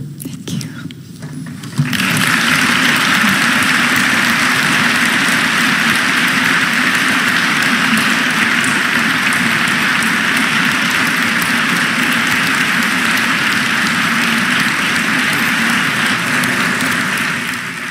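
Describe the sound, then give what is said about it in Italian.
After a brief quieter moment, a theatre audience at Teatro Dal Verme in Milan, Italy, breaks into loud, sustained applause at the end of the first part of a public event with Nobel laureate Han Kang presenting her book The White Book; a dense steady clatter of many hands clapping until the end. “Gli applausi che hanno salutato la conclusione della prima parte dell'incontro pubblico di Han Kang, premio Nobel per la letteratura 2024, in occasione della presentazione in Italia al Teatro Dal Verme di Milano del libro, anzi di Il Libro Bianco,”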